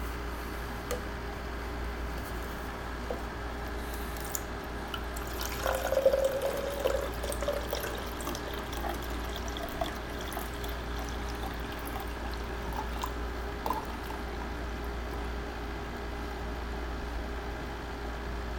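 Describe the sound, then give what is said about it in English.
Water is poured from a full cup into an empty cup in a steady trickle, with a brief louder splash partway through, one small spill, and soft gurgling, no talking. “Here is your full one. And I want you to pour that into the empty one.”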